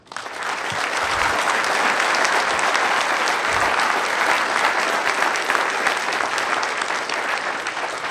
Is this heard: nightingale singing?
no